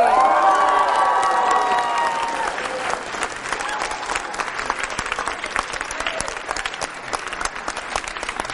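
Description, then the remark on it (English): An audience in Shrewsbury at The Hall at Patriot Place breaks into loud, sustained applause with whoops and cheers to welcome guest Rex Burkhead, the shouting strongest in the first few seconds before settling into steady clapping that continues to the end. “All right, Shrewsbury, help me welcome Mr.”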